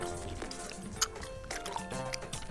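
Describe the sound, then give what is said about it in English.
Loud, wet chewing of a piece of gum given by Andy Breckman, with irregular smacking and squelching clicks, a few sharper pops standing out, and no one talking. “And in honor of Andy, I'm going to chew gum loudly as I do my final set recap.”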